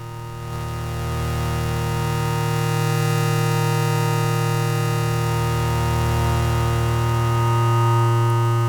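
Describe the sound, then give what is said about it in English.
A dense, sustained synthesizer drone with many stacked harmonics holds steady and loud, washed in reverb that smears it into a thick, slowly swelling wall of sound. No voices. “All right, who wants some reverb?”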